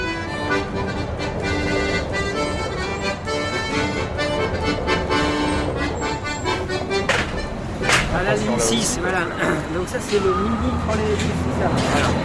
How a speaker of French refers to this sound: Là, c'est le mini trolley, l'équivalent des autres, hein, mais pour la Croix-Rousse.